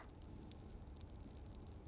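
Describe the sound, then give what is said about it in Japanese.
A hot steel kitchen-knife blade hisses and sizzles as it is quenched in water to harden the steel, a steady, fairly quiet bubbling rush with a few sharper crackles popping through, no voices. “じわって言ってる。今度はお水。あ、やっぱりこれで一気に鋼が固まる。”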